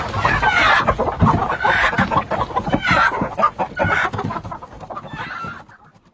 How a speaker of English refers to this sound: Where's that damned hen got to? Come here, you brute!